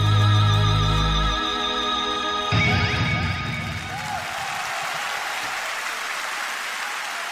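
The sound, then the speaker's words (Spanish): A brief musical sting gives way to a crowd's applause: dense, steady clapping that swells and then holds at a moderate level for about five seconds, with no voices. “Así que nada, de eso y de más cosas hablaremos en breve, después de los aplausos ya.”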